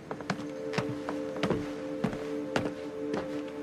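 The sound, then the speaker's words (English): Footsteps performed as foley in sync with a film on screen, a steady walking rhythm of about seven crisp thuds over a few seconds, set against a constant low electrical hum with no talking. “Pay real close attention to trying to move your feet exactly at the same time as when they move on screen.”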